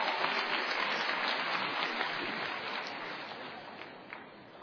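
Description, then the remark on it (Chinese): An audience applauds to welcome crosstalk performers Yue Yunpeng and Shi Aidong, a dense wash of many hands clapping together at an even loudness that tapers off gradually toward the end, with no voices over it. “接下来请您欣赏相声学小曲，表演者岳云鹏、史爱东，掌声有请。”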